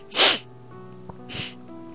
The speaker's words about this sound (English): giving her some tissue for the sniffles